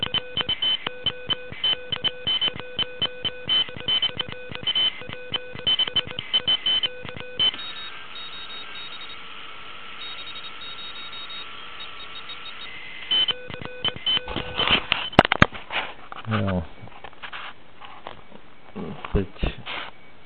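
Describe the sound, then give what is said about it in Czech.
Shortwave radio reception on a 9 V Pixie direct-conversion receiver with no selective filter: several steady whistling tones, heterodyne whines and unfilterable parasitic beats layered over hiss, a burst of clicking static early on, then a quieter noisy stretch before garbled signals and tones return. “Samozřejmě jsou tam slyšet všechny ty parazitní záznění, které nejdou odfiltrovat, že je to přímo směš a není tam žádný selektivní filtr.”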